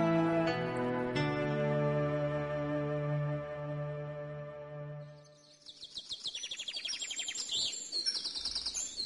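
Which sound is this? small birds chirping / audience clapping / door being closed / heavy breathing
small birds chirping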